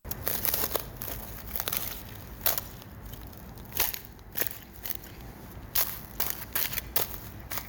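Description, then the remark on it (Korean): Footsteps crunch over thin ice on a small puddle in a park in winter, in an uneven rhythm, each step a sharp crackling burst with brittle snapping. Some steps land in quick pairs, others after short pauses, with no talking. “얼음 밟는 소리 들으면서 마무리하겠습니다”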